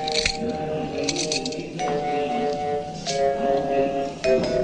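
Handcuffs clink and ratchet shut as two men are cuffed around a post: a few sharp metallic clicks and rattles over several seconds, with bright ringing tones hanging between the snaps.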